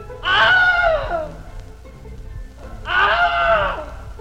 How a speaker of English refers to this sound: And then the director gives him something that motivates him to do the classic scream that we all recognize. Not an owl. A real scream of pain.